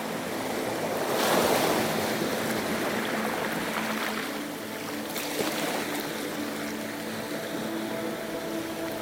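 Steady rushing of ocean waves fills the scene, a broad continuous wash with a swell building around the second and another softer surge near five seconds, no voices present.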